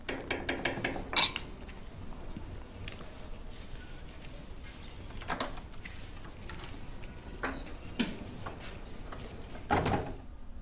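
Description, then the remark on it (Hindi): A quick series of sharp knocks on a door, followed later by scattered thuds and clunks as the door is handled and opened. “दरवाजा खटखटा रहा है।”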